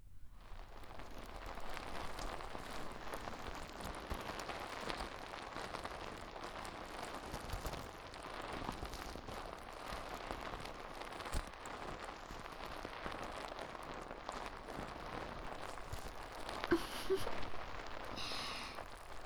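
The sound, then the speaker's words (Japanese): Foam placed on the ear to wash off styling product fizzes right at the ear in a steady, dense crackle of tiny popping bubbles, soft and continuous for the whole stretch, with no one speaking. “泡が耳元でシュワシュワする音、お好きですか？”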